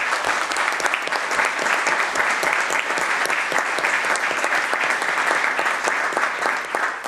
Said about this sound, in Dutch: Dank u daarvoor en graag een kort applaus voor deze nestors.